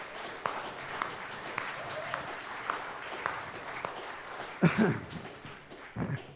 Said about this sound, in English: Amen? Can you clap about that?